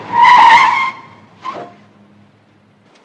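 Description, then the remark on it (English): Car tires squeal loudly and shrilly for nearly a second as a car angles into a parking space on a quiet side street, then give a brief second chirp over a low engine hum. “Oh, my God, look, there's a parking space. Angling into it.”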